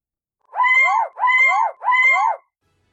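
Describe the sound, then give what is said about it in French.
Three wild, loud, hoarse screeching cries from a bird, each about half a second long and evenly spaced, with no other sounds around them. “se mit soudain à rouler de grands yeux, hérissa ses plumes, déploya ses vastes ailes, desserra son bec hideux et poussa trois cris sauvages d'une voix rauque et effrayante.”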